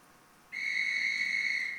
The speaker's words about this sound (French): Donc vous entendez un peu la rugosité du sifflet.